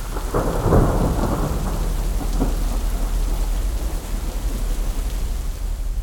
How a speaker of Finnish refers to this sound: No se ukonilma sitten lopulta yllättikin. Yöllä kello 3 aikaan.